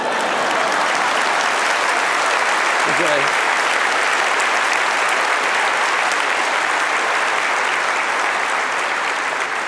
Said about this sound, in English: That's worth a clap, you guys.